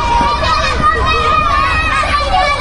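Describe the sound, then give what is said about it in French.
Children at Camp Tournesol, a French-language holiday camp, shout and call out while running and playing in the gardens of Running Mead Presbyterian Church on Annette Street in west Toronto, over a steady, dense hubbub of playing voices, with high-pitched cries rising above the babble throughout, busy and lively. “Sur la rue Annette, dans l'ouest de Toronto, les cris joyeux des enfants résonnent jusque sur les trottoirs.”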